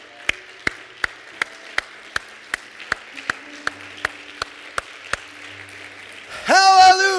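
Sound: audience clapping hands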